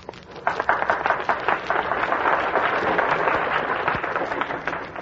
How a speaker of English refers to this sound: The applause should be for you.